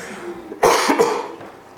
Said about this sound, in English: excuse me. Oh, it's the perils of coughing with a mic that's attached to your face.